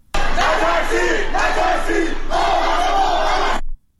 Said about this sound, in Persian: در شهر قم نیز شامگاه چهارشنبه افراد متعددی در محوطه‌های مسکونی شهر تجمع کرده و شعار نترسید نترسید ما همه با هم هستیم سر می‌دهند.